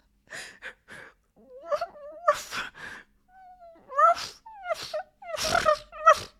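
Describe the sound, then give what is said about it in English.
A person imitates a dog, alternating short yelping barks with high, wavering whines in an uneven series of bursts, with no other talking. “You like it when your cunt barks and whines like a filthy puppy.”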